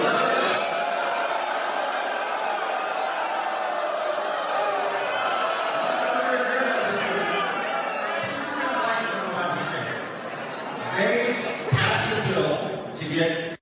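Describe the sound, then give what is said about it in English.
A large crowd at GOP Rep. Mike Flood's town hall roars and shouts continuously, drowning him out, recorded by a camera standing in the crowd; a dense wall of overlapping voices that swells louder near the end with sharper bursts of yelling and jeering. “Clip number 8, GOP Rep. Mike Flood's town hall drowned him out continuously. Here's what it looked like in the crowd.”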